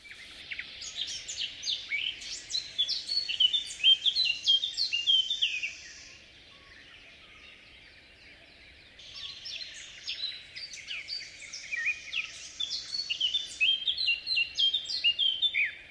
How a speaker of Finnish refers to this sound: Ja seuraavaksi äänessä viikon luontoäänen esittelevä … ja Mustapää Kerttu.